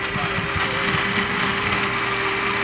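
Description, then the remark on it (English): A blender making a smoothie runs at full speed, giving a loud, steady whirring roar with a constant humming tone through it and no pauses or changes in pitch. “It's like a humorous thing with blenders.”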